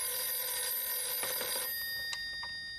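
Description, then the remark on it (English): A telephone bell rings steadily and loudly, its bright metallic tones sustained before fading slightly toward the end, with no voices present. “All right, I'll get it.”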